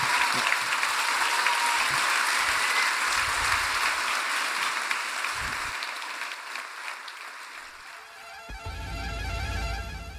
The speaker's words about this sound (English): Ladies and gentlemen, please put your hands together for Geraint Thomas. Cheers, mate.